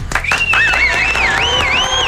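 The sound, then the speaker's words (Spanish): A loud burst of crowd applause mixed with cheering and whistles welcomes entertainer Gil Barrera for the entertainment segment of a Mexican morning show at 8:15 a.m. It is sustained steadily throughout the short stretch with no one speaking. “Venga, el aplauso.”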